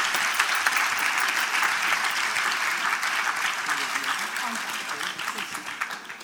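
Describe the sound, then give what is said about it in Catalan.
An audience at an award ceremony applauds steadily for several seconds, a dense, continuous clatter of many hands, with faint voices mixed in and the clapping tapering slightly at the end. “Oh, un aplaudiment, no?”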